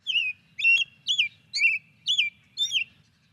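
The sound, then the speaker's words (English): An American robin sings a series of six clear, warbling whistled phrases at a steady, evenly spaced rhythm, fairly loud over a faint low background rumble, with no voices. “Here is a robin song.”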